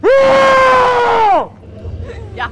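A single loud, sustained scream lasting over a second, with a steady high pitch that drops off at the end, followed by faint crowd murmur and a brief shriek, at a scare attraction in the castle ruin at Königstein, where costumed monsters run at visitors and scream.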